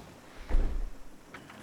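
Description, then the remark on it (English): A door shuts with a single heavy, muffled thud, followed by a faint click or two of the latch a moment later. No voices. “And also, lock the door behind you.”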